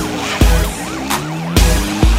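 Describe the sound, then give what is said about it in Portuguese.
Police sirens wail in quick, repeating up-and-down sweeps during a police chase, fairly loud, while sharp bursts of car noise cut through several times amid the rush of traffic. “De repente, ouvi sirenes, era perseguição.”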